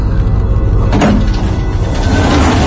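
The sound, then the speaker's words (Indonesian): An elevator door slowly slides open with a short mechanical whoosh near the start, after the descending lift stops at the 7th floor, over a steady low hum of the lift that continues throughout. No one speaks. “Perlahan, pintu lift itu pun terbuka.”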